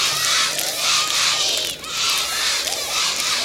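A crowd at a Jashn-e Taklif celebration in a square cheers loudly and continuously for a speaker's mother, with high excited shouts and applause blending into a dense roar that dips briefly midway before swelling again.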